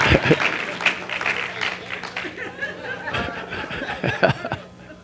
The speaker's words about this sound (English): Come on, we're getting better clap than that. So y'all scared to clap?